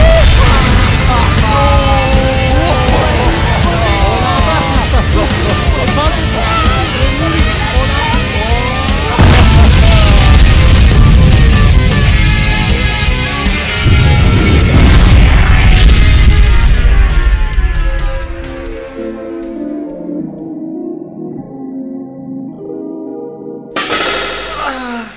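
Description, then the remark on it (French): A loud, dense blast as a shelter explodes, with deep booming rumble and crashing noise layered over dramatic music, sustaining for several seconds before subsiding into quieter, sparser tones and a brief final burst. “Tu te souviens pas être monté dedans juste avant l'explosion du refuge?”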